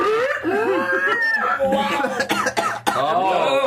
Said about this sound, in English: Oh. Every time I do that, I cough. I can't do the pig vokes.